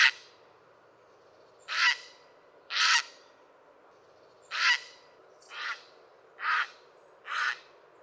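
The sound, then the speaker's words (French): A fishing bird, calling at the end of its day of fishing as it returns to its nest, gives seven loud, harsh croaking calls, each short and raspy, repeated at roughly one-second intervals with a few uneven pauses, alone with no talking. “Ce cri est un croassement répétitif et puissant.”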